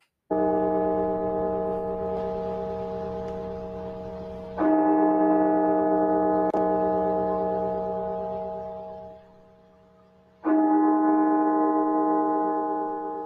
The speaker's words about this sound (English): The National Cathedral in Washington, D.C. last night. Its bell tolling 300 times, one ring of the bell for every 1,000 Americans as we pass the 300,000 death toll.